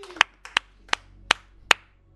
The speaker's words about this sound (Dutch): Plaats 5. Just for fun. Met 175 punten. Klein applausje. Groot applaus.